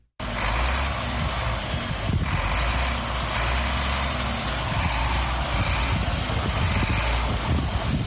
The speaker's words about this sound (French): Massata Cissé, dite Mama Africa, est à l'origine de ces ronronnements de ce véhicule poids lourd.